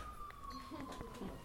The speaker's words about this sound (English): that sound of far-off sirens goes well with every song in the world. I really think so, especially rock and roll songs.